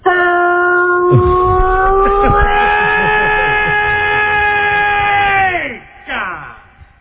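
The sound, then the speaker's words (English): A voice imitates a five o'clock whistle, holding a loud, steady, mid-pitched hoot for about five seconds that climbs slightly, then slides down and cuts off, followed by a brief breathy noise. “That's gonna be the 5 o'clock whistle.”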